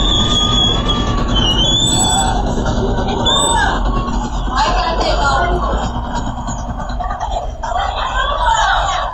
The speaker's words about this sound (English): It starts with the sound of the motorcyclist pulling up and the brakes squeaking.